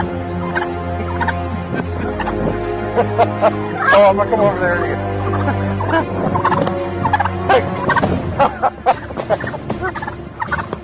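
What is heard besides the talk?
wild turkey gobbling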